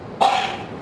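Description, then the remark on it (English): A single sneeze bursts out abruptly, a sharp breathy blast that fades within about half a second, with no talking around it. “Bless you.”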